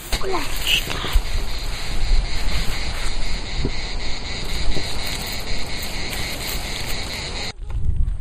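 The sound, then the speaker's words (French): Wind blows steadily through moaning leaves in nature with a low, buffeting rumble and broad hiss, while a constant high chirring of cicadas and crickets runs underneath; the sound drops out briefly near the end before resuming. “Les feuilles qui gémissent, le vent, surtout le vent.”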